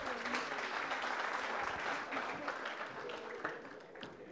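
Steady applause from an audience, a dense wash of many hands clapping at a constant, fairly loud level that thins slightly toward the end, with no voices standing out.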